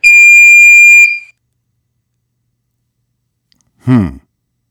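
A single loud, steady electronic beep with a bright, buzzy tone, used as a story signal in a listening game, holds for about a second and then cuts off, followed by silence and a brief vocal sound near the end.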